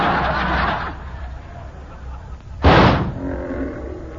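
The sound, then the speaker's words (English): A wounded lion roars in a rough, rasping outburst, followed by a sudden loud, sharp blast of a gunshot fired at the lion that misses it, with background noise in between and no voices. “I didn't hit the lion.”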